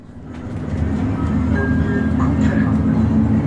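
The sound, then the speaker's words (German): Steady, loud low rumble of an engine heard from inside a moving city bus travelling from Lucerne railway station toward Kriez, with a constant drone and faint rattles and squeaks layered on top, no talking. “Wir fahren mit dem Bus vom Luzerner Bahnhof Richtung Kriez.”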